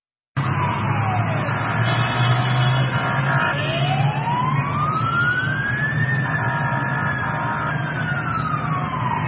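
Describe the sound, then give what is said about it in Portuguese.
Emergency sirens from fire engines and ambulances driving to the scene of a burning train during rush hour wail loudly, their pitch sweeping slowly up and down over a steady rumble of heavy traffic, continuing without pause throughout. “Viaturas de bombeiros e ambulâncias conduziram para o local durante a hora de ponta, com os bombeiros a lançar água sobre as carruagens que estavam a arder”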